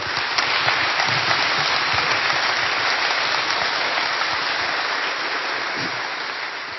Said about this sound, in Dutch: Okay. Geef hem nog een warm applaus.